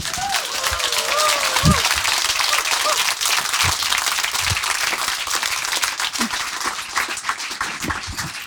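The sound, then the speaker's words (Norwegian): Sustained applause from an audience welcoming crime novelist Karin Fossum, a dense steady wash of clapping with a few brief voices and a melodic whistle-like tone early on. “Ta henne godt imot.”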